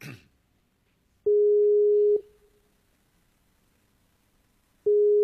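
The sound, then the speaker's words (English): An outgoing Skype call's ringing tone: a steady, loud electronic hum sounds for about a second, falls silent for over two seconds, then starts again. A brief noisy rustle comes first, and nobody speaks. “So that's why you hear things now. Usually there's not a ringing.”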